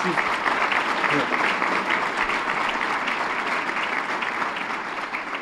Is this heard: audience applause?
yes